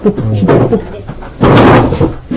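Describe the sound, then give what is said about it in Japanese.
A chair scrapes loudly across the floor in a single rough, noisy drag lasting about half a second, with people talking before and around it. “この椅子を引く音もまたこう。”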